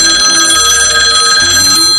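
A telephone rings with a bright, steady electronic trill, loud and continuous for a couple of seconds, over a faint low tone that shifts partway through. No one speaks.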